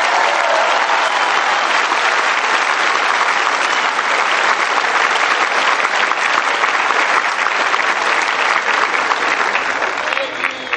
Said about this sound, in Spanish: Un aplauso para la prensa independiente de México.